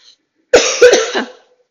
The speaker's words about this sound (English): I'm sorry, I've got a little cough, so I'm not just drinking for fun.